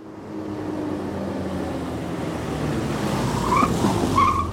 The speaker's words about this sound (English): My car is at the curb, and I'm driving away.